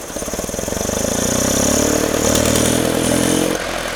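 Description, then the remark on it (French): A 1925 petrol truck engine with side valves and about 2.5 litres displacement, started with the starter, runs with a steady, loud, low mechanical chugging that holds throughout, then drops slightly in level near the end. No one speaks. “Et à coup de démarreur, ça démarre.”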